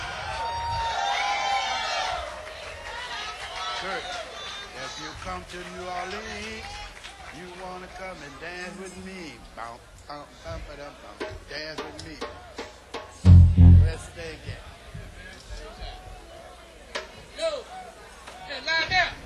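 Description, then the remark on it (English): Festival crowd chatter at the River Stage of the Oak Street Po' Boy Festival: a steady wash of many overlapping voices with scattered shouts and whoops, broken once by a sudden loud thump partway through. “We are broadcasting live from the Oak Street Po' Boy Festival River Stage.”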